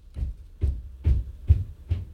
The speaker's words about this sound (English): Oh, they're doing construction next door. I apologize if you hear that noise.